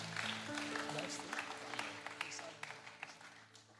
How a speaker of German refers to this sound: Guck mal, wie viele es sind. Diese Menschen haben erstmal einen Applaus verdient für ihre Ehrlichkeit.